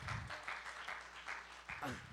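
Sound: audience hand clapping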